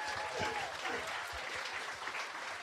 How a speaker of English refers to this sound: Thank you very much. A round of applause to both these guys.